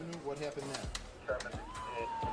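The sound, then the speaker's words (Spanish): A siren wails from police patrol cars and an ambulance dispatched by a Chicago 911 operator to a badly wounded man found in a street in the west of the city, rising and then holding a steady high tone, mixed with crackly sizzling noise while a voice talks over it in the foreground. “Inmediatamente despachó unas patrullas y una ambulancia.”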